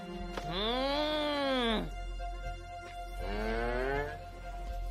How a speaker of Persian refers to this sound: بریم وقتشه به گاوا غذا بدی.